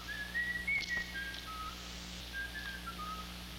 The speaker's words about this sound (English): Oh, my whistle's warmed up.